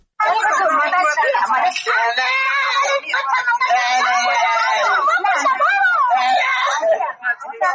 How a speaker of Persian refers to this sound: فریاد نوجوانی که آه و نالش به گوش افراد منسوب به پلیس ایران نرسید. ویدیویی که تازه در شبکه‌های اجتماعی نشر شده و نشان می‌دهد یک نوجوان در جاده یسوی پلیس ایران لاتوکوب و شکنجه می‌شود.